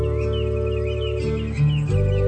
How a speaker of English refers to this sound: It's 6 o'clock. The birds are singing.